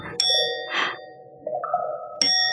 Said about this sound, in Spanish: El viejo reloj de la plaza central del barrio chino deja escapar 12 campanadas y Tagasi Chani se estremece.